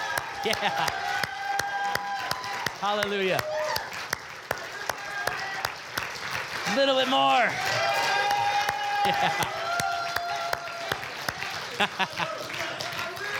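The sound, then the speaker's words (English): A church audience gives a clap offering, clapping and applauding steadily, with scattered cheers, while voices call out exclamations over the dense, continuous clapping. “Come on, give them a clap offering, church.”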